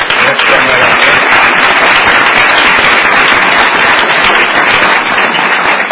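A crowd applauds steadily and loudly for six seconds as a governor's office staff member is called to the podium to be recognized, a dense, even wash of many hands clapping with no pauses or voices standing out.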